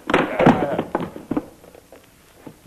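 A loud crash as a thrown chair slams into something, followed by a few smaller clattering knocks that quickly fade into quiet.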